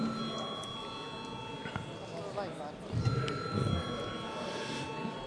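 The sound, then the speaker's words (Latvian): A parliamentary voting bell rings steadily for several seconds before a vote on whether to hold a revote, a sustained metallic ringing with rapid repeated strikes, over a low murmur of voices and room noise. “Lūdzu zvanu.”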